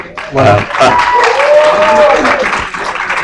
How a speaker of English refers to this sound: And this being our fifth year and our first year here at the Overland Park Convention Center. Big round of applause to them. They were great.